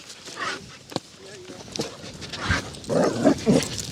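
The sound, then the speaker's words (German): Dogs meet outdoors on a walk, a young dog keen to scuffle with a relaxed other dog, with snuffling, shuffling movement and brief whimpers and yips, growing into a few louder, excited bursts toward the end, while faint human voices sit in the background. “So, jetzt haben wir hier einen Hundefreund, an dem wir jetzt mal vorbei müssen.”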